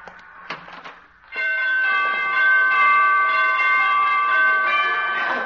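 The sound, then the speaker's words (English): Door chimes at a dancing teacher's door ring out loud after a short patch of soft clatter, their bright, sustained tones overlapping and shifting pitch like a playful melody for several seconds. “She must have borrowed those door chimes from Carmen Miranda.”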